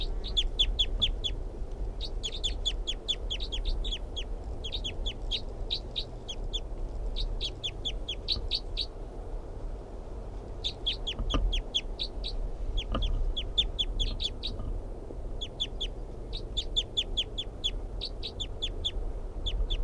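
A wild bird calls from a very small tree about 3 feet above the ground, after playback of its own calls. It calls repeatedly in short bursts of rapid, high-pitched notes, phrase after phrase with brief pauses between, over a steady low rumble of background noise.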